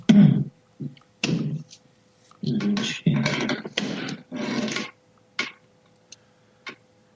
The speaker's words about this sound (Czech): Takže teďka všichni můžou vidět, že tam máš problém se západkou ve dveřích. Hele, jsou jenom 60 let starý, no, tak já nevím.